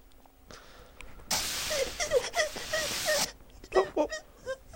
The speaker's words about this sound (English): What was he whimpering for? I'm not sure. Oh, God, you never know with him.